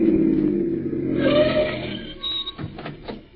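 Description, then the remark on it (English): A car engine rumbles, its pitch rising and then settling as the vehicle slows, followed by a few light clicks and clatters as it comes to a stop. “Listen, here comes another car. Flag them, will you? You don't have to flag them. They're stopping.”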